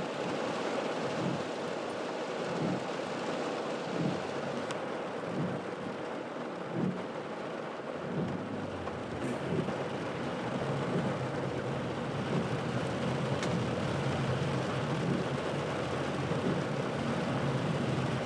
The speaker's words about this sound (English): The entire rest of this audio boo is going to be made up of the natural sounds of rain on the windscreen of a Opel Vectra car.